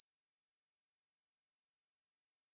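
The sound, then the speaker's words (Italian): A single piercing high-pitched whine holds perfectly steady for a few seconds, a pure ringing tone with no other sounds, voices or explosion following it. “Un sibilo simile ad un suono prima di un'esplosione penetra prepotentemente dentro le orecchie di Luca”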